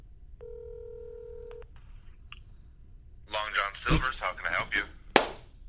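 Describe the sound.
A phone call is placed: a steady electronic phone tone plays for about a second, followed by a few faint clicks. A voice then answers the phone with a restaurant greeting and speaks briefly, ending with a sharp knock.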